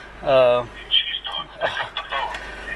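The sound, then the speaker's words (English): A phone rings with an incoming call: a loud, sustained buzzy tone starts the custom ringtone, followed by voice-like chatter from the phone, a recorded message telling the owner to pick up the phone, clear. “Now Tony's calling me.”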